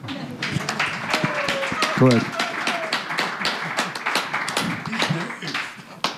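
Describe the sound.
A crowd applauds steadily for several seconds, dense overlapping claps filling the whole stretch, with a voice briefly speaking over the clapping near the middle.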